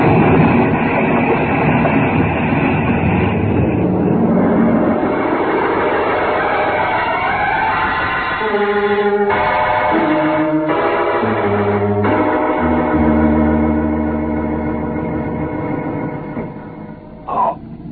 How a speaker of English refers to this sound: You cleared the ship just as she exploded. The blast hurled you both out into space like a couple of rockets.